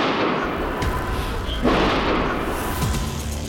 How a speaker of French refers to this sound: Là, d'un coup, au moment où on s'avance, on entend des coups de feu.